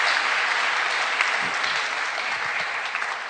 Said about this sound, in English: Kindly clap with me as we thank him. Thank you so much.